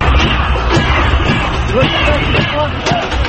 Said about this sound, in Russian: Участники акции протеста бьют палками по принесенным с собой ведрам, стучат пластиковыми бутылками по металлическому ограждению перед зданием парламента и кричат «позор».